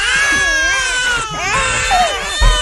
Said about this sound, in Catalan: Una altra pregunta seria, quanta estona aguantes? Ah, quanta estona suportes a un nen plorant?